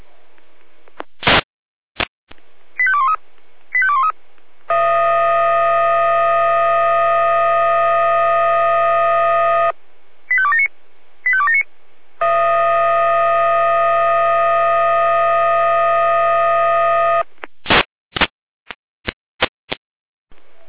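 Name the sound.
fire brigade alarm siren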